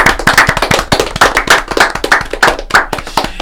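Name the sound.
audience applauding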